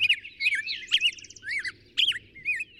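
Birds sing in a lively, varied chorus of bright, high chirps and warbling phrases that come in quick bursts, layered over a faint low hum.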